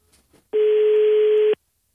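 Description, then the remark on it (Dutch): A single steady telephone ringing tone while a call is placed, one loud, even burst lasting about a second, then silence, with no voices. “Oh, kijk, daar gaat hij al.”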